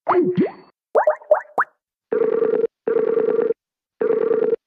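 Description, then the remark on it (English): A few quick bloopy electronic chirps, then a loud buzzing phone tone in three short, evenly spaced bursts with silent gaps, as a caller hangs up and calls the other person back. No one speaks. “So I'll hang up, and I'll call you back right now.”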